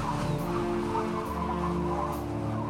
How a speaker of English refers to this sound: Listen carefully to the sounds and be ready to say what you can hear. There are big waves crashing against our ship. And a wild, whistling wind.